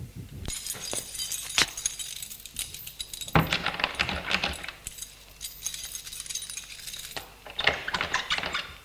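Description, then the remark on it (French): Keys jingle and rattle as the door of a radio station is locked, with several sharp metallic clicks and clunks breaking through a steady, bright jangling. No voices are heard. “Après avoir fermé à clé la porte de la radio, il se dirige impasse Saint-Polycarpe.”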